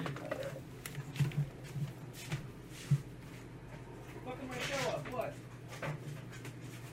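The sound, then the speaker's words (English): A dog whimpers and makes a few short, muffled yelps as it is being let out, with soft scuffling and thumps over a steady low hum, fairly quiet overall and without clear loud barks. “Oh, that dang dog.”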